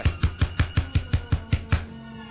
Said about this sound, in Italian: Così ebbi l'ardire e bussai.